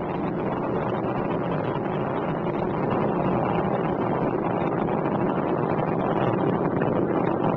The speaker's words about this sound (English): Endeavour's engines were throttling down as the orbiter passes through the area of maximum pressure on the vehicle, now 50 seconds of the flight.